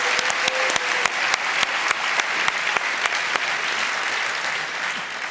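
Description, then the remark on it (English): A conference audience at Congress applauds steadily, a dense wash of clapping with sharp individual claps standing out in the first few seconds before settling into an even, sustained patter. “And I ask you to applaud those guys who worked with us.”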